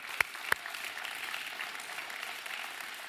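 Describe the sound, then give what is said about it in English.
A crowd applauds steadily, a soft even patter of many hands throughout, with two sharp, louder claps standing out near the start. No one speaks. “I tell you what, with a big round of applause, let's do it again.”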